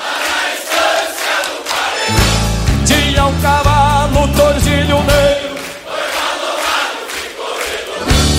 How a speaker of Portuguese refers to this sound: Quero contar com a participação de vocês. E no ritmo da canção, as palmas, vamos ver. Bem forte, vamos ver.